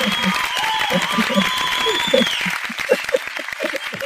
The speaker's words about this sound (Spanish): Muy bien. Ahora sí que sonó bien ese aplauso.